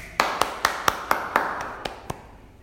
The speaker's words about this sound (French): Un applaudissement